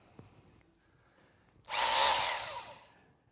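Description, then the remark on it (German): After a quiet moment, a power drill roars to life, grinding loudly for over a second before winding down. No one speaks. “der Umbau von der Kaffeemaschine zu einem Schlagbohrer”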